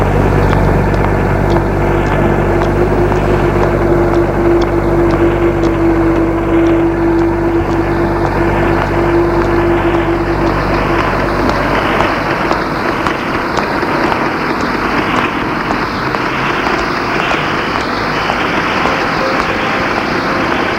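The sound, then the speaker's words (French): A heavy truck engine rumbles loudly and steadily, with a low droning hum and a throbbing, rhythmic pulse, as a truck approaches along a small, deserted side street; no voices are heard. “Il entend un petit bruit qui petit à petit grandit. Il se demande ce que ça doit être.”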